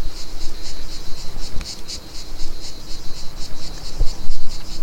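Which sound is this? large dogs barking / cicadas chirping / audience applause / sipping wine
cicadas chirping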